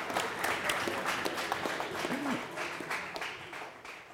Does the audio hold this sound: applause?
yes